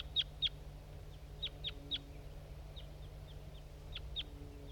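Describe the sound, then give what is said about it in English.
A wild male crossbill sings on its way in, in a series of short, high, sharp notes, some doubled, spaced irregularly over a steady low hum. “Okay, there's some crossbills around now. Wild birds. That's a male that was singing on its way in.”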